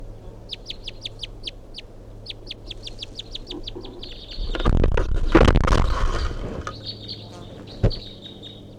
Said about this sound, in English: 8:11, that bird's still perched up in the pine tree here, giving these weird calls or whatever.